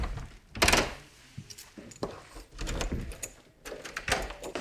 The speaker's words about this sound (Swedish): Nu kommer det slamra lite här. Det är så tunga dörrar på slottet. De flera meter höga pardörrarna måste låsas upp och stängas efter varje passage.